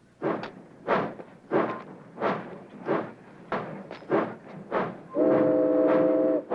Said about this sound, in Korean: 제크의 화물열차 19호는 포틀란드를 향해 다시 출발하고 넘버원은 자신이 다시 이 열차에 탄다고 예고합니다.